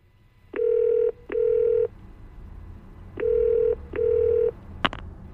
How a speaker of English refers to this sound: On the way home, Matt's phone rang. It was Dora from the costume shop.